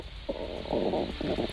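A stomach rumbling in low, gurgling bursts, a few irregular swells of bubbly churning that rise and fade over a second and a half, fairly loud with no voices over it.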